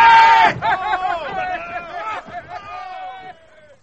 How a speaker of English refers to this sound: Listen! They're cheering! The buggers are cheering us! By God, they are for us!